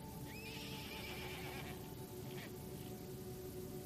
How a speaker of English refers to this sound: In the distance, you hear a horse.